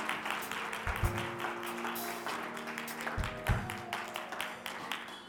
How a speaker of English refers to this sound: Harvest, clap your hands this morning.